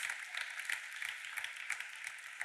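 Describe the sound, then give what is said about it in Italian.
An audience claps steadily for a couple of seconds to welcome first-time visitors, a dense, even patter of many hands with no voices over it. “Mi sa che c'è qualcun altro, però vi facciamo l'applauso lo stesso anche se non avete alzato la mano.”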